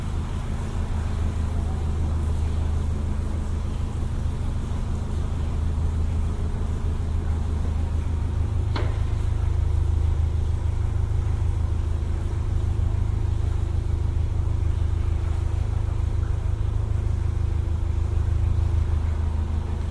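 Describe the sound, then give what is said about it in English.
A steady low engine drone from an oncoming boat about 50 to 100 yards away, swelling slightly as the boat passes, with a brief sharp knock midway and constant rumbling hum throughout. “Must be about 50 to 100 yards from the oncoming boat now.”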